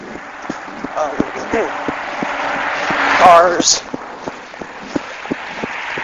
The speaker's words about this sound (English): Cars. That's the only thing about running on a secondary road. You have to deal with traffic.